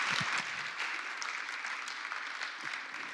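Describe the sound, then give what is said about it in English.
An audience claps steadily, a dense, even wash of many hands with a brief louder burst at the start, continuing without voices for a few seconds. “Let's give Kim a round of applause.”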